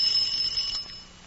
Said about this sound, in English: Bill, the alarm clock. Turn off the alarm.